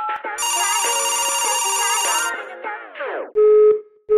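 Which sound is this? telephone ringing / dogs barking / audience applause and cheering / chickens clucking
telephone ringing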